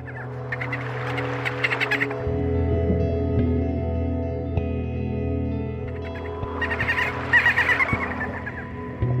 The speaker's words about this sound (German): Da ist ein Delfin.